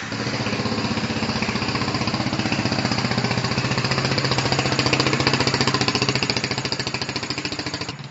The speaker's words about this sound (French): Est-ce que vous pourriez me faire ronronner une moto sur Ah oui, sur bah, le je peux banc vous d'essai? mettre la 125 qui fait le championnat de France, il n'y a pas de problème.